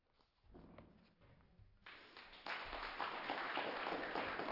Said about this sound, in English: Thank you, thank you. You don't have to clap after each one, because you might not clap, and then I'll feel like, or you might be like, well, I don't think I'm going to clap. So you can wait till the end, but unless you're totally, you know, moved.